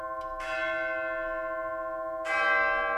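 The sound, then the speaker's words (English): Large orchestral bells, imported from Dallas for the Aspen Music Festival, ring out with bright, sustained metallic tones, two strong strikes about two seconds apart, each blooming and slowly decaying while the long overtones hang in the air. “When I was there for the final rehearsal that morning, I saw and heard the bells and found out that you had imported them from Dallas.”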